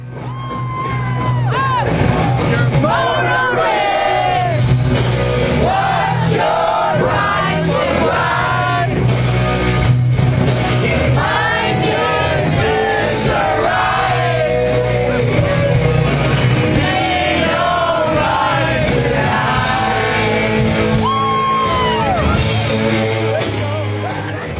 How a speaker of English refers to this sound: Listen to the crowd sing this part.